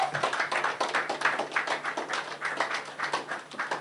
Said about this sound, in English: Can we clap for the children?